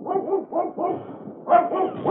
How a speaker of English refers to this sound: A couple of the fellows with flamethrowers were moving up a short distance from where I hid out, and as they were about to continue on, they heard Buster barking.